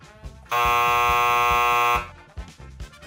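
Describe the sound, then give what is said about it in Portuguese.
A loud, steady electronic buzzer blares for about a second and a half, a harsh sustained tone rich in harmonics, signaling the start of a two-and-a-half-minute talent performance, with rhythmic music thumping underneath before and after. “A partir do nosso alarme, você terá 2 minutos e meio pra mostrar o seu talento.”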